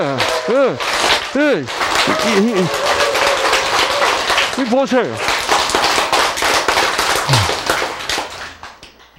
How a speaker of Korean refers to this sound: 바꾸려면 어떻게 해야 돼? 박수를 쳐야 된다니까, 박수를.